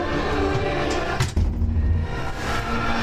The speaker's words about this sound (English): who just opened the door and closed it